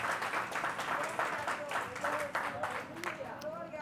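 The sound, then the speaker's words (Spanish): An audience gives a loud round of applause to God during a morning service, a dense wash of many hands clapping at a moderate, even level, with voices murmuring and calling out underneath throughout. “Vamos a dar un fuerte aplauso a nuestro Dios en esta mañana.”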